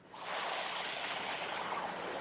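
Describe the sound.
A person exhales a long, steady hissing "sss" sound imitating a snake during a breathing exercise, continuous for a couple of seconds with no speech.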